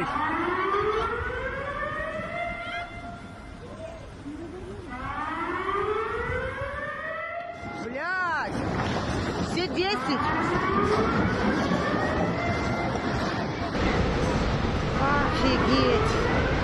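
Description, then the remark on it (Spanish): A loud tsunami warning siren, sounded after a magnitude 8.8 earthquake, wails in long rising and falling sweeps, repeating several times over a constant rumble of background noise, with a sharper burst of overlapping tones midway. “Solamente queremos que escuche la alarma y las cosas que sucedió luego de ese poderoso sismo de 8.8 en la escala Richter.”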